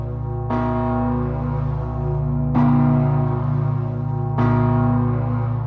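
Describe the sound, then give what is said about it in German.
Large church bells toll three times, each deep, heavy strike sending out a broad shimmer of overtones that hangs and blends into the next, with a steady low hum underneath and no voices. “Das sind vor allem die großen Glocken, die die Ruhe ausstrahlen.”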